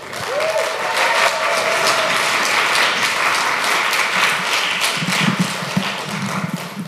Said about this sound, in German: Bitte gebt noch einmal alles und klatscht fest in die Hände